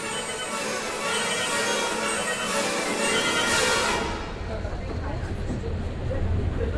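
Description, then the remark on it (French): A suburban RER line A train at Marne-la-Vallée Chessy station, the line's terminus and also a TGV station serving Disneyland Park, loud: a steady bright hiss and clatter gives way after a few seconds to a deep low rumble, with voices faintly in the background. “Donc, terminus de la ligne A, qui est aussi une gare TGV, puisqu'il faut bien desservir un parc d'attractions de cette ampleur.”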